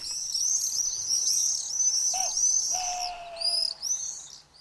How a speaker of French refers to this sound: Ces jolis sons sont pour nous tous un indicateur de la venue du printemps, de l'arrivée des migrateurs, et nous avons tous à l'esprit les cris des martinets noirs qui apportent légèreté et poésie à l'univers sonore des villes.